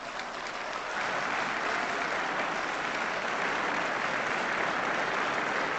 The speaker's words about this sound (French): Applaudissements